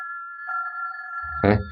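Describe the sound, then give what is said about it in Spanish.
A hotel-room telephone on a bedside table rings with a steady, high electronic tone that holds throughout, a lower tone joining midway, before a brief low clatter near the end. No voices. “El teléfono.”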